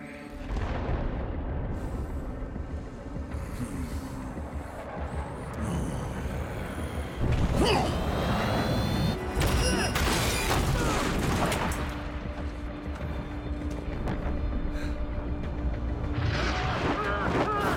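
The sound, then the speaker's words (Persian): Heavy rumbling blasts and booms of artillery fire and explosions roll on continuously, loud, with sharper bursts crackling through a dense wall of battle noise; direct fire is being called in on the caller's own position. “حالا شلیک مستقیم. تکرار میکنم، شلیک مستقیم به امنی من.”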